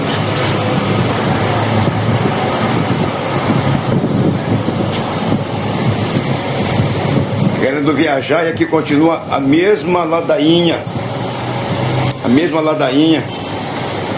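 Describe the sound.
Steady, loud rumble of idling and moving cars and motorcycles at the Cujupe ferry terminal, busy with travellers heading back to São Luís, fills the scene continuously, with a man speaking over the traffic noise during the latter half.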